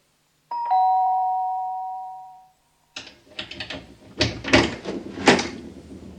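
A dentist rings the doorbell of a flat he wants to rent: a two-tone doorbell chime rings clearly and rings out for about two seconds, then a door rattles and clatters open with several sharp knocks and scrapes.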